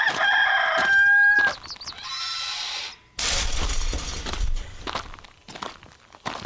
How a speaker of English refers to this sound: Come on around back, Arizona. That rooster crow must mean one thing. It's 8 o'clock. It's Saturday morning, and you are tuned in to Rosie on the House, your Saturday morning tradition for 30 years.